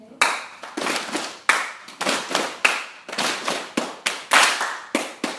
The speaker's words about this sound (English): So the first rule is I'm going to clap once and you're going to slap your legs twice. One clap. So it's two good things, it's one. One clap. So oh, two slaps to one clap.